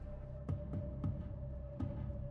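Muffled taps knock in an uneven pattern, four dull thuds with short and longer gaps, Morse code tapped from below by someone asking for help, over a steady low hum.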